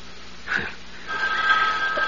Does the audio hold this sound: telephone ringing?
yes